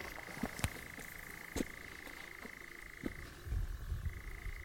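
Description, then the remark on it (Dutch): A nightjar churrs in the evening in a long, steady, mechanical trill that runs unbroken, drops out briefly near the end, then starts up again, with a few faint clicks and low rumbles underneath. “We hebben de nachtzwaluw gezien.”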